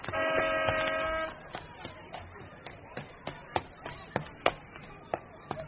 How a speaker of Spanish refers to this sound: Sí, es mamá la que toca el claxon. Ya la vi.